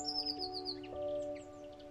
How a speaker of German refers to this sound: Sie zwitschert dir zu und schaut dich mit ihren kleinen schwarzen Knopfaugen neugierig an. Na klar! Das ist die magische Blaumeise der Wunderwiese.